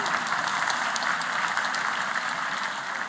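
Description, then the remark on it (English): A crowd applauds steadily, a dense wash of many hands clapping at once, fairly loud and sustained throughout with no voices rising above it. “I do want to, a big applause.”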